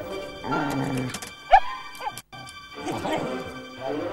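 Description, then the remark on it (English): Dogs all over town bark and yelp in overlapping bursts after a knife's whistle attachment is blown, with a sharp sudden crack partway through and a brief quiet gap before the barking resumes. “Buddy and Molly, however, leap up and look around them, as do dog after dog after dog all over town.”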